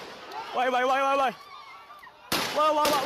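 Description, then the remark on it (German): Shouting voices ring out at a protest, then a police officer fires three sharp, loud gunshots at close range at a masked activist in quick succession, with more yelling underneath. “Als sich ein vermummter, offensichtlich unbewaffneter Aktivist dem Polizisten nähert, gibt dieser aus nächster Nähe 3 Schüsse ab.”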